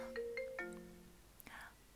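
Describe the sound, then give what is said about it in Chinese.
A phone ringtone for an incoming call from a woman's husband plays a short electronic melody of a few descending tonal notes, fairly quiet, then cuts off with a click and a brief rustle. “等一下，等一下，我老公来电话了。”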